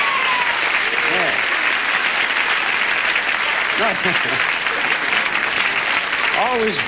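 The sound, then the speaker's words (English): Sustained studio audience applause at a game show, in response to the announcement of a $1,000 bonus, fills the whole stretch, a dense steady roar of clapping, with faint cheers and whoops rising briefly above it. “and I've just waited because there's a response and applause.”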